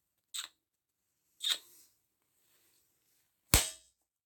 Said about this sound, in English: I think you should slap my cheeks a little.